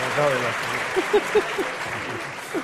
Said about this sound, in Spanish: Muy buenas, muy buenas. Aplauda.